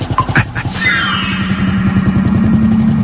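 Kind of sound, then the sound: vehicle, motorcycle engine starting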